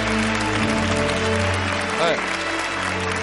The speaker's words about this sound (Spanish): Sí, señor, un aplauso para este tío, sí, sí. ¡Vamos! ¡Bravo!